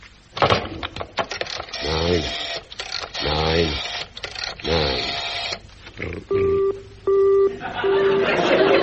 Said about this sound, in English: What shall I do now? Well, I'll have another try at telephoning the police station.